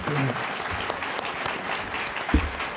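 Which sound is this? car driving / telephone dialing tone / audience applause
audience applause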